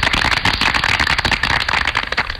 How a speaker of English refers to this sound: Please clap.